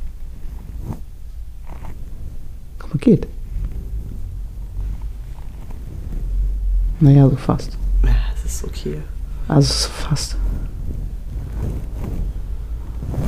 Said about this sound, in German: Mach mal mit deinen Haaren Geräusche. Mit meinen Haaren? Ja, mach mal gucken, was die für ein Geräusch von sich geben.